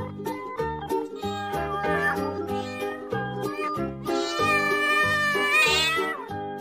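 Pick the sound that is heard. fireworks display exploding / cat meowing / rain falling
cat meowing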